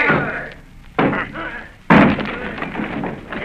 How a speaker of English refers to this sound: Bones! Bones! Bill Bones! Will you answer me? Down with the door, then!